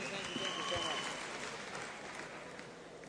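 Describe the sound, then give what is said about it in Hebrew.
A crowd claps and applauds steadily for about three seconds, a dense, loud patter that tapers slightly at the end, with a few voices and whistles mixed into the noise. “מחיאות כפיים, איפה אתם?”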